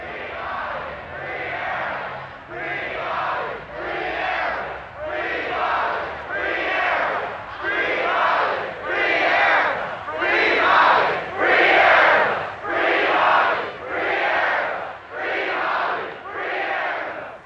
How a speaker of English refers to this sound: The sea of young people you hear gathered on May Day in 1970 to protest the prosecution of the New Haven Nine. Members of the Black Panther Party, including co-founder Bobby Seale and New Haven chapter founder Erica Huggins.